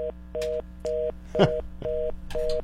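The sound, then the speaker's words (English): A telephone busy signal from a phone having issues beeps in a steady on-off rhythm, five or six short tones at moderate level, with a brief bit of background noise or a faint voice partway through. “I don't know why I'm having issues with this phone.”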